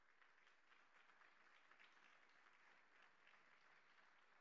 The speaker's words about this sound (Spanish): Denle un aplauso al Señor y vamos terminando.